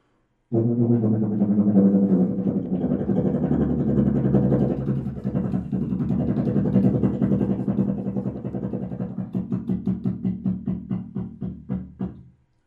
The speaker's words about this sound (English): And this sounds more like a helicopter, of course, than a tuba. So, but it can be used for rhythmic effects.